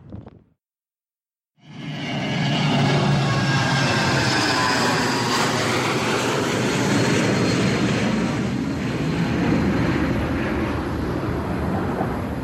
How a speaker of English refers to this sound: Cool, plane.